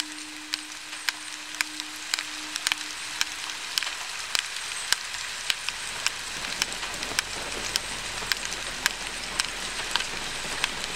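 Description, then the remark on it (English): Rain falls in a steady, dense hiss, with scattered drops tapping out sharp irregular clicks, in a 2016 performance of Hildegard Westerkamp's Talking Rain. A low hum sounds at first, then fades away partway through. “You can hear this exploration of space happening in Hildegard Westerkamp's Talking Rain, in this performance, which was recorded in 2016.”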